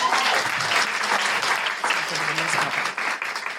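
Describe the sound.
A town hall audience claps steadily for an audience member about to speak, a dense, even wash of many hands that holds its loudness throughout, with faint murmurs of voices mixed underneath.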